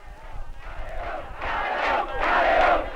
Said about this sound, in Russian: Эта запись сделана в тот момент, когда арестованного убийцу Бетанкура выводили из монастыря Святого Франциска. На протяжении многих минут собравшиеся скандируют: «К стенке!»